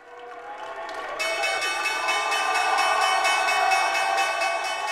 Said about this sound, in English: ringing the opening bell at the New York Stock Exchange last year. He was cheering and pumping his fist in that video